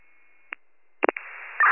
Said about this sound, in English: Your radio is loud static.